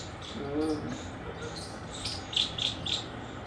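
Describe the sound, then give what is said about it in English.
Many squirrels chattering, with a run of short, high-pitched chirps that sound cricket-like, including three quick bursts near the end over a steady hiss of background noise. “Sound like a whole gang of crickets or something.”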